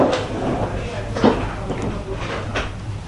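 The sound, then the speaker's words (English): A door swings shut with one short, muffled thud partway through, against a steady room hum and faint background murmuring. “Okay, maybe we could close this door for a minute.”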